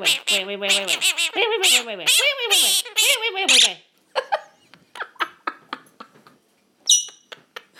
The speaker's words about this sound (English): Oh, this bird, honestly, this bird is absolutely hilarious. She's only about... How old is she now? Let's think. I had her a year at the end of August. She's got to be about 15 months old now. And she is absolutely hilarious.